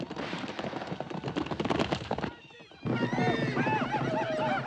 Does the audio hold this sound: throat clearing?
no